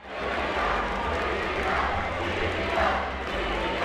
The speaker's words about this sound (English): Fans in Lomedy Stadium are often on their feet, cheering on the players during tense games.